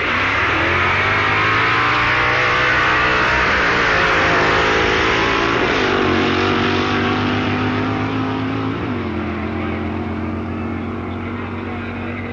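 The 7-litre V8 engine of Ronnie Sox's big Mercury Comet saloon drag car roars loud for the whole stretch during a drag race at a festival. Its pitch rises and dips as it revs, completely drowning the beat of Alfie Hagen's 1100cc JAP V-twin motorcycle.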